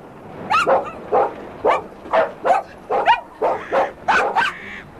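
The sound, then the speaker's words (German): A dog barks repeatedly, around nine sharp barks in a quick steady rhythm, some with a yelping, whiny edge, with no voices present. “Ruhe, Ruhe, Timmy. Willst du denn auch noch unser Versteck verraten?”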